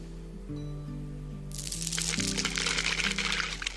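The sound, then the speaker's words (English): Water pours into a transparent tube and rises, lifting a berry to the top, with a steady, splashy gush that starts partway through and keeps going, fairly loud over a soft background of sustained musical tones. “The water rises, bringing the berry to the top.”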